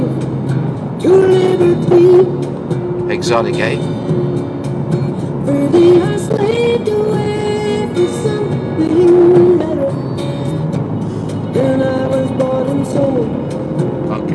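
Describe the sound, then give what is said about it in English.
A tractor passes on the other side of the road during the morning rush hour in Ireland, a steady, loud engine rumble with rising and falling whining tones over continuous traffic noise. A man speaks briefly over it. “Actually, there's a tractor passing on the other side of the road.”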